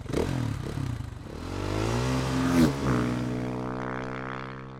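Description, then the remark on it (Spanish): A motorcycle engine revs up as the wolf rides off at full speed to the grandmother's house, its pitch climbing steadily as it accelerates and then holding a loud, sustained whine, with a brief clatter early on and no voices. “El lobo se puso el casco, cogió su moto y se fue a toda velocidad a casa de la abuelita para llegar antes que Caperucita.”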